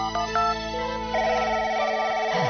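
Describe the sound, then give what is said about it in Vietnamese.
A telephone rings through the line with steady, tonal electronic trills, clear, with no one speaking over it, as a woman calls an old friend. “Bà Năm lật sổ điện thoại, gọi cho mấy người bạn già để mở đài nghe kịch”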